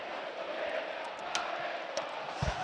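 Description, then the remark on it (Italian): A large stadium crowd of Como fans roars in celebration of a Como goal against Parma, a dense, steady wall of cheering and shouting that holds without letup. “Il gol è buono, il vuoto che ti hai sentito purtroppo dei tifosi del Como.”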